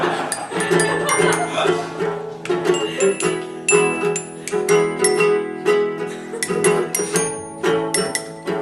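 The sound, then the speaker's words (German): A glockenspiel played out of tune, its bright metallic notes ringing in a quick, uneven run with lingering overtones, struck repeatedly and fairly loud throughout. “Entschuldigung, dass ich vorher das Glockenspiel nicht noch gestimmt habe mit meiner Flex.”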